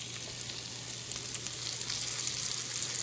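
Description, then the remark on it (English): Three goat's cheese sandwiches, brushed with olive oil, sizzle on a panini grill, a steady crackle and hiss that grows slightly louder after the first second, with a faint low hum beneath and no talking. “Okay, I'm putting that on. You can hear it sizzle.”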